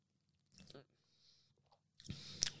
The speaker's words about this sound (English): Oh, wow. Okay. Burst of lime hits you for like the splittest of seconds, for this moment. And then there is this fiery, oh, the aftertaste. It's like tasting together as you listen to me tasting this gin for the first time.